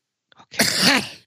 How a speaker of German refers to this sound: Okay. Er hustet sich nur aus, er schüttelt sich. Ja, mit dem Husten.